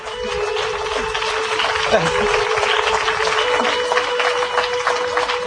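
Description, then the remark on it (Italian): Sustained audience applause: a dense, even patter of many hands clapping that holds at a steady loudness for several seconds, with a faint murmur of voices underneath. “Un applauso”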